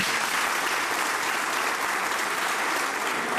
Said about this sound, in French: slameur au cœur endurci et à la langue bien déliée, et vous pouvez encore l'applaudir.